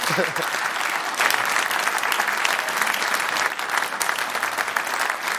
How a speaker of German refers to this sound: Sie kriegen von uns, von der letzten Mannschaft, einen Applaus. Der Livestream gibt einen Applaus.